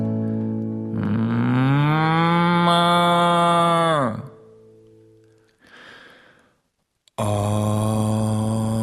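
A cow gives a long, loud, droning moo lasting about three seconds, then a breathy snort, then launches into a second loud low moo that runs to the end.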